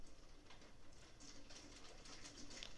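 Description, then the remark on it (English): Heavy rain patters against a window glass in a dense, hissing wash, with scattered sharper taps of drops throughout; no one speaks. “The rain's really hitting the window, yeah.”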